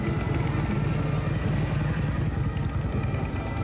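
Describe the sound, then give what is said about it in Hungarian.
Harley-Davidson motorcycle engines idle at the international Harley-Davidson Festival, a motorcycle meet in Alsóörs, Hungary, a loud, steady, throbbing rumble with a rapid uneven pulse that continues without pause throughout, with no voices. “Ma kezdődött és 4 napig tart Magyarország egyik legnépszerűbb motoros találkozója, a nemzetközi Harley Davidson Fesztivál.”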